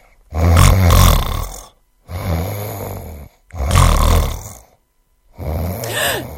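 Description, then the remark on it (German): Loud, rumbling snores of Olaf the snoring bear, a story character, repeat four times in a slow rhythm, each a long, throaty rasp followed by a short silent pause, prominent with no talking. “Ist das Gott? Nein, das ist Olaf, der Schnarchbär.”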